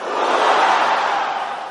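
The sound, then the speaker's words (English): An audience at a prayer meeting roars together when the preacher calls "Roar!", one sustained, loud wall of shouting voices, holding steady for under two seconds before easing off slightly at the end. “Roar!”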